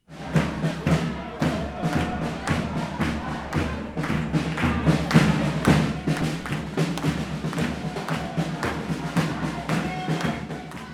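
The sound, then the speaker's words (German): A crowd at a spontaneous protest rally at the railway station in Bern, Switzerland, blocking tracks in solidarity with the intercepted Global Sumud Flotilla and Palestine, fills the scene with a dense wash of many voices, punctuated by repeated sharp thumps and claps in an irregular rhythm, steady and fairly loud throughout. “Auch in Bern formierte sich eine Spontankundgebung, die unter anderem am Bahnhof Gleise blockierte.”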